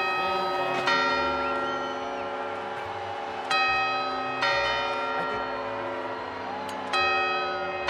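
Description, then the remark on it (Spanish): Clock tower bells ring out the quarter chimes ahead of the main bell strokes, four resonant strikes at uneven intervals, each tone hanging and slowly fading into the next, loud and clear with no talking. “Y parece que ya estamos escuchando esos cuartos.”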